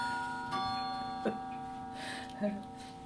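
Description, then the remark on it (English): A clock gives a few soft, unevenly spaced clicks over a steady faint ringing tone, fairly quiet, with no one speaking. “Oh, we forgot to turn the clock off today.”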